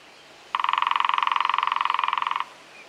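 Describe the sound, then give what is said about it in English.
A lesser spotted woodpecker drums in one steady, rapid roll of evenly spaced taps, lasting about two seconds with a ringing, mid-pitched resonance, then stops abruptly. No voices are heard. “Its drumming is much quieter and less vigorous than that of the great spotted woodpecker.”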